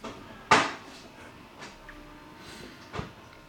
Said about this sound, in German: Meine Kaffeemaschine hat sich gerade gereinigt und schlafen gelegt, ausgeschaltet.